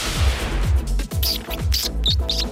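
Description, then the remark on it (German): Green rose-ringed parakeets in the Rhine-Main region of Germany give a string of shrill, harsh squawks in quick succession, ringing out clearly over a steady low rumble in the background. “Das ist das Geräusch dieser Papageien, dieser Halsbandsüttiche, dieser grünen Papageien, die man auch hier im Rhein-Main-Gebiet jetzt auch in manchen Regionen dann auch antrifft, wenn ich Glück habe.”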